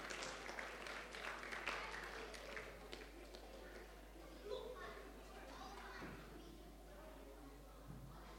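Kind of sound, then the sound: crowd, audience clapping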